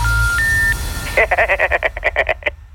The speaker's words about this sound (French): C'est le réveil d'Alan. J'ai fait une petite farce ce week-end. J'ai sonné à 4h, alors qu'on était dimanche.